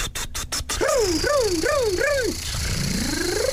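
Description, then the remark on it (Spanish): A car engine starts with a few quick sputtering bursts, then revs in four rising-and-falling whines before a steady rising drone as it drives off; no one speaks. “Entonces se compró un coche.”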